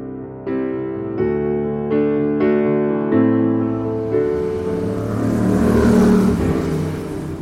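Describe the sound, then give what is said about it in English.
Street traffic at a roadside bus stop on Goldhawk Road, W12: a heavy vehicle pulls away with a droning engine whine that steps up through several gears, then gives way to a broad, rushing roar of passing traffic. No one speaks. “Today, I'm standing by Bus Stop K on Goldhawk Road, W12.”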